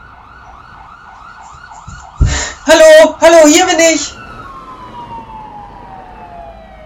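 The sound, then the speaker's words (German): A police car siren, the car driving fast toward the main train station, wails with a steady rising-and-falling tone, is briefly drowned out by a loud voice shouting at the top of its lungs, then returns as a long tone that slowly drops in pitch. “Als … den Polizeiwagen sieht, brüllt er aus voller Kehle.”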